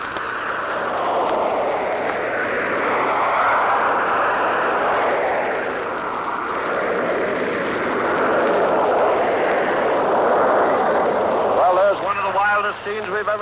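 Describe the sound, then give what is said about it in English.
A stadium crowd at a swimming race roars loudly and continuously as Curtis wins for the United States ahead of Denmark and Holland. The cheering is a dense wash that swells and holds for the whole stretch, with a single voice rising out of it near the end. “Now listen to the roar of the crowd.”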